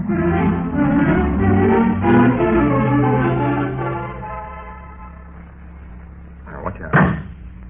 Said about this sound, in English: Slammed that door on my foot. Oh, excuse me. I thought you were getting out on the other side of the car, slide clean across the seat.